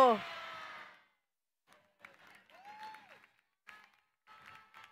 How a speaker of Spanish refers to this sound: Que se escuche fuerte, fuerte, fuerte el aplauso para la doctora Claudia Matamoros.